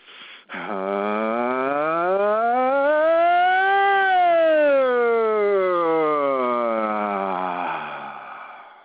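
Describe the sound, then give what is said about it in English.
A single voice imitates a siren during a body-shaking vocal exercise, gliding smoothly upward in pitch and then slowly back down in one long, sustained, loud sweep lasting several seconds, with no other sounds around it. “All right, so shake that up one more time just as a normal siren.”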